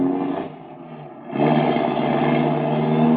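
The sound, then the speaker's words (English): The engines of two cars, with three men in each, rev loudly and steadily as the cars pull away from a small tourist camp, the roar dipping briefly before surging louder again; no voices are heard. “But as he arrives, two cars are pulling away, three men in each.”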